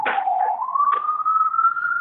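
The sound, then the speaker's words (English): An emergency vehicle siren wails outside in New York, its steady tone climbing slowly in pitch over two seconds, fairly clear with a couple of brief noisy bursts and no talking. “Yeah, you're in New York, and so we hear the sirens.”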